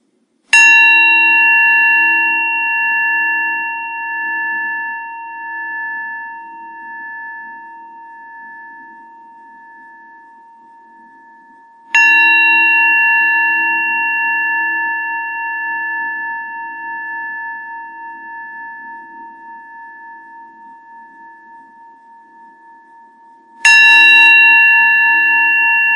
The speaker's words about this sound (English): And instead, we'll begin by just hearing the sound of the bell and just practice receiving the sound of the bell.